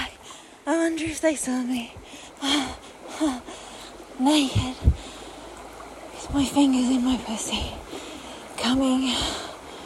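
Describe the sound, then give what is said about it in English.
A steady wash of creek water runs softly in the background throughout, partly covered by a woman's breathy vocal sounds and moans. “Wishing you were fucking me by this creek.”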